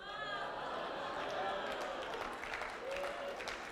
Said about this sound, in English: I even got a clap. Thank you. Thank you very much.